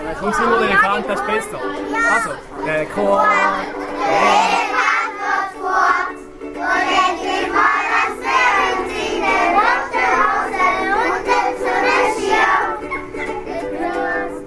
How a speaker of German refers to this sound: Wenn es noch 2 Minuten geht, bis der Zug fährt, nimmt der Lehrer spontan seine Ukulele für und fängt mit seinen Kindern an singen.